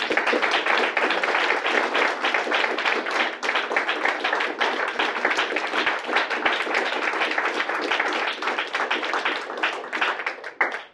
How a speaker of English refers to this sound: Well, okay. Maybe just a final round of applause. I think this was a wonderful event.